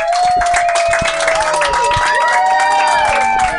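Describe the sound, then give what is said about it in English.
The Blind Tiger Comedy Club audience cheers and applauds loudly and steadily, dense clapping mixed with high whoops and shouts that rise and fall throughout. “So thank you guys so much, Blind Tiger Comedy Club audience. Please make some noise for yourself.”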